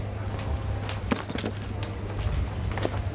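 A woman's footsteps walk past at a brisk pace, several distinct taps spaced irregularly over a steady low hum and background noise, with no one talking.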